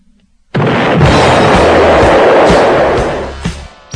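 A loud explosion sound effect, played to represent blowing someone up, bursts in suddenly after a brief quiet moment, then roars and rumbles for about three seconds before tapering off with a few crackling pops.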